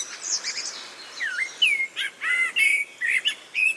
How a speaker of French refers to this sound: Le merle noir, c'est vraiment le champion du chant en ville. Hein. On l'a tous en tête, ou en tout cas, on vous le remet dans l'oreille, le merle noir.